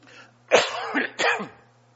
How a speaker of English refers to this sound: Excuse me. I'll try not to cough too much. It's just a problem I have, and please bear with me.